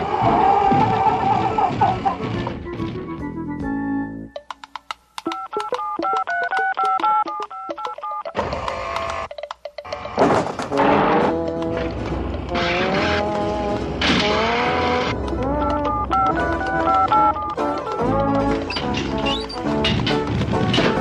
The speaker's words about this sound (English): Those phones ringing, folks.